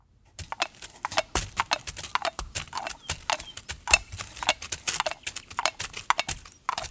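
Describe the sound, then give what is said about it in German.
Steady clip-clopping of hooves as animals walk along, a brisk run of sharp knocks in an uneven rhythm, with no voices. “Die drei waren noch gar nicht lang gelaufen.”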